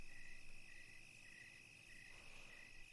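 Crickets chirp steadily in the background, a continuous high-pitched trill with regular pulsing, fairly faint and unbroken by any talking.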